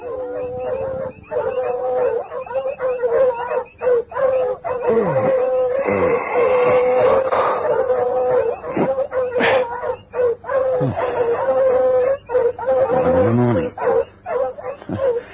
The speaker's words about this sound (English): One night, Volator was awakened by the dogs barking excitedly.